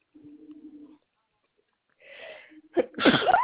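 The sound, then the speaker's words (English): A single loud sneeze with a sharp sucked-in breath before the explosive burst, preceded by a faint low hum and a brief pause of silence. “Bless you.”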